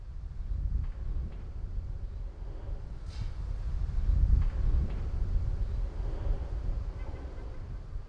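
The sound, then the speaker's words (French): A low, blustery rumble of wind buffets the microphone, swelling into a stronger gust midway before easing back to a steady roar, with a few faint clicks and no voices. “Justement, ben voilà, on cherchait une transition, il y a eu un coup de vent”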